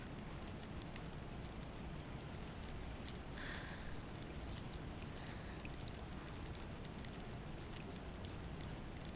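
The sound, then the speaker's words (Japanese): Heavy rain pours down steadily and grows stronger, a dense, constant hiss of drops striking surfaces, with no voices and only faint brief tones rising briefly above the downpour. “雨足が弱まるどころか強くなってきてしまったし、あなたもそのままだと風邪をひいてしまうわ。”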